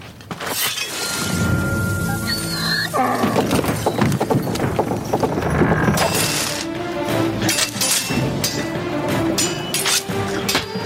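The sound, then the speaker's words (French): A donkey in a film scene calls out in loud, strained tones at the start, then a burst of shattering and crashing follows, with steady clattering, hoof-like clopping continuing loud to the end. “Il y a un âne.”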